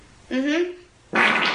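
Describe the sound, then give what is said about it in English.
A girl farts: a loud, drawn-out fart with a buzzing, slightly falling tone lasts about half a second. After a short pause comes a second, noisier sputtering burst, prominent. “Here's this girl farting, all right?”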